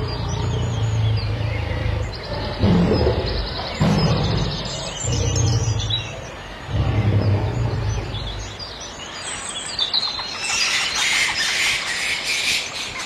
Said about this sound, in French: Écoutez. C'est incroyable, c'est... C'est le nouveau son de la ville. Je suis au centre-ville. On n'entend rien. Que les oiseaux et la faune sauvage qui revient.